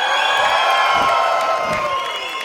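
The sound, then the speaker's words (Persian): A large audience screams and cheers loudly and continuously, a dense wall of high-pitched shrieks and whoops that stays steady for the whole moment with no clear talking. “خیلی نامردید، جیغ نمیزنید.”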